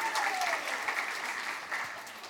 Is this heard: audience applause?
yes